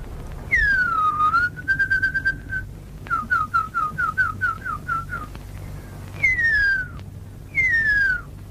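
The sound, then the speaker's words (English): A Maori tracker whistles the call of the huia, an extinct New Zealand bird: long descending slurred notes, then a rapid series of short chirping whistles, then two more falling slides, clear with a low hum beneath. “This is a Maori tracker whistling the call of the huia, a New Zealand bird that went extinct from overhunting and habitat loss in the 20th century.”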